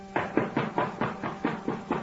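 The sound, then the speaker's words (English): A rapid, steady series of about eight firm knocks on a door, evenly spaced, with no voices. “Answer your door”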